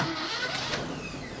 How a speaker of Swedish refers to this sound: Men nu slår jag på tändning. Här startar jag elpumpen.